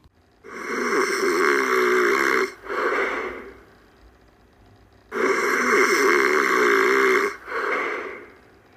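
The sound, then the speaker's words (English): A voice imitates loud snoring and grunting: two rounds, each a long rasping snore followed by a shorter grunt, separated by a brief quiet pause. “Snore, snore, snore, grunt, grunt, grunt, snore.”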